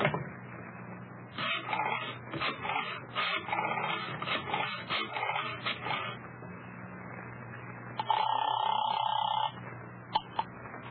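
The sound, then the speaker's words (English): A telephone is dialed to call someone's mother: a few seconds of rapid mechanical clicking and whirring, a pause, then a steady electronic line tone for over a second, followed by a couple of sharp clicks. “will you phone your mother or must I? All right. I'll do it.”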